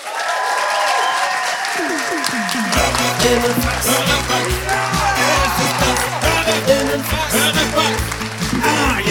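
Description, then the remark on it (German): A crowd in a venue that is normally a techno club applauds Max-Richard Lessmann steadily and loudly throughout, and a few seconds in, a thumping, steady electronic beat kicks in beneath the clapping. “Macht einen riesengroßen Applaus für Max-Richard Lessmann.”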